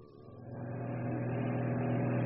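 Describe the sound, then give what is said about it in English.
An approaching German fighter plane's engine drones with a steady, low harmonic hum, swelling gradually louder over a couple of seconds. No voices are heard. “The two men stared at the approaching German fighter plane, suddenly feeling helpless and naked.”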